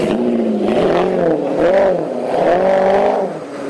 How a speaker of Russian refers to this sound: Этот звук ни с чем не перепутать. Рычание двигателя мощностью под 500 лошадиных сил явно принадлежит родстеру. Одному из самых успешных суперкаров за всю историю американского автомобилестроения «Шевроле Корвет»,